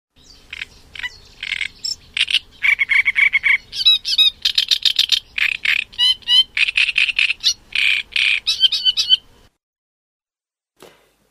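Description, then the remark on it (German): A great reed warbler sings loudly and continuously for about nine seconds, a harsh, grating chatter of repeated croaking and squeaky phrases, then falls silent except for one faint final note. “Dann als weiteres Beispiel der Drosselrohrsänger, der kommt also in Eurasien überwiegend vor. Hören wir uns den mal an.”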